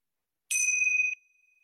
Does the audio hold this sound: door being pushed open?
no